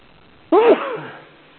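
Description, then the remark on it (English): A single sneeze bursts out abruptly, a sharp voiced blast that trails off over about half a second, fairly loud against an otherwise quiet background. “Bless you.”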